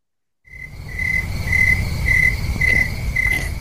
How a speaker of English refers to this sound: The cricket? I heard crickets. I swear I just heard crickets.